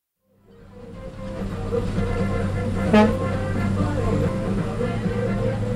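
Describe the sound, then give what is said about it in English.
A large old bus engine rumbles steadily, rising in loudness as it gets going, with a brief sharp clank or horn-like burst midway through the constant drone; a former United States school bus, repainted and used as the number 5 public bus going downtown, on route to San Jacinto. “This is the number 5 bus going to downtown. These are like old school buses from the United States that they send over here, paint them up, and they use them for public transportation.”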